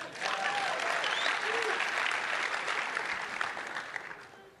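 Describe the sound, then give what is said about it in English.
A crowd applauds steadily for the speaker's wife, a dense wash of many hands clapping at an even loudness for several seconds before it begins to thin slightly toward the end, with faint voices mixed in. “If you think that she's quite attractive, put your hands together.”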